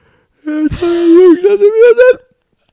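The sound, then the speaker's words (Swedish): A single long, drawn-out yawn from one person: a sharp open-mouthed intake of breath turning into a breathy, voiced groan that slowly rises in pitch before cutting off. “Men det är en djup reflexmässig inandning med öppen mun.”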